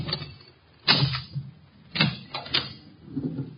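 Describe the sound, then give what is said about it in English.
Several sharp metallic clicks and rattles of skeleton keys being tried in the lock of a locked door, spaced over a few seconds, with a faint creak as the door gives way. No talking. “Door's locked. A guy I know got out of jail the other day.”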